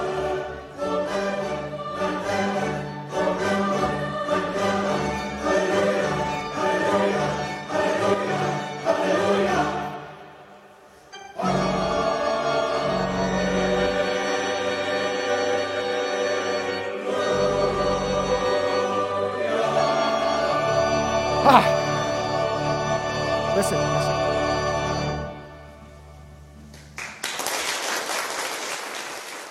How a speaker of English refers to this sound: I want you to listen to this recording of one of the most religious things in the world, the Hallelujah Chorus. It's just the ending, but listen. Beautiful, isn't it? Imagine a 200-person choir.